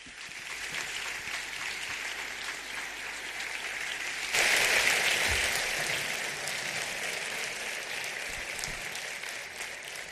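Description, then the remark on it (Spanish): Sustained audience applause, a dense wash of clapping that swells noticeably louder around the midpoint and stays strong to the end, with no one speaking over it, as an audience at a public event welcomes Carlos Herrera, the pregonero giving the event's proclamation speech. “hace 17 horas que sonó su despertador y por tanto les ruego que le reciban con el aplauso cariñoso que merece Carlos Herrera.”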